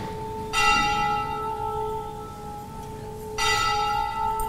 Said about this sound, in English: The bell.